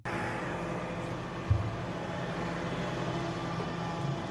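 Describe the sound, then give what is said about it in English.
A garbage truck engine idles with a steady, low rumble, fairly loud, with a single brief thump partway through. The truck has a Trump 2024 logo on its side, and Vivek Ramaswamy, dressed as a garbage man, is working a shift picking up trash. No one speaks. “He's dressed up as a garbage man, working a shift, picking up trash with a very tastefully done Trump 2024 logo on the side of the garbage truck.”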